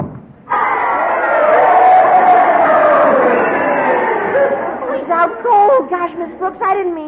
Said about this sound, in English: This is the way the crowd wanted it to end. You heard them cheering, didn't you?